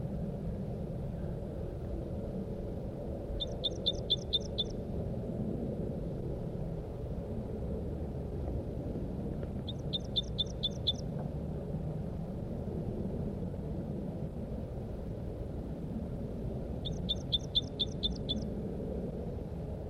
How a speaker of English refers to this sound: she's giving louder calls from the tree nearby. It's been half an hour now, and the birds are back. This is the male. I located the male. He's near the nest site.